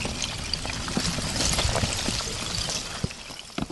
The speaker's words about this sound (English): For the first time all year, the river is flowing, carrying chunks of ice. But if it was really quiet, like there was no engine noise, mm-hmm. The sound is amazing. It sounds like chandeliers clanging each other.